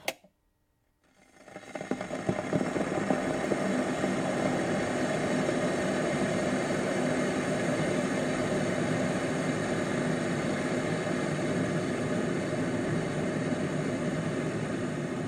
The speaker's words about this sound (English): Firstly, actress Kim Basinger, boiling a kettle for her morning cup of tea whilst wearing pyjamas and a dressing gown.